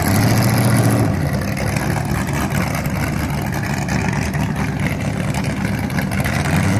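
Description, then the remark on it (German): A vintage racing car engine rumbles loudly at the Oerlikon racetrack as the old car, unloaded from a trailer, is driven into place and tested, running steadily with a deep throaty tone and slight shifts in revs throughout, with no voices. “Man lädt die alten Autos ab, fährt das ins Plätzchen und testet dabei ein bisschen, ob es auch tut.”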